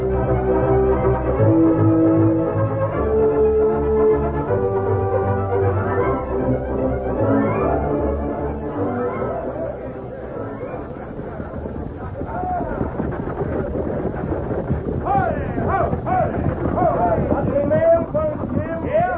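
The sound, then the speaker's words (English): A stagecoach arrives on time, with a busy clatter of hooves and wheels building steadily amid a murmur of crowd voices, loud throughout. “The stage is in. Right on time.”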